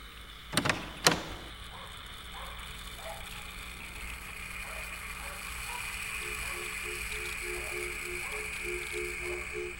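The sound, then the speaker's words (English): A big wooden door opens close by: two sharp knocks of the latch, then a long, steady creak and groan of hinges that stretches on and ends in a series of rhythmic squeaks. “Big wooden door, opening and closing, close up. Opening.”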